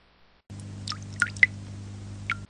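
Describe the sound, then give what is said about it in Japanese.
Several distinct raindrops drip one after another at an uneven pace, each a short bright plink over a low steady hum, clear throughout. “あれ、また雨か。”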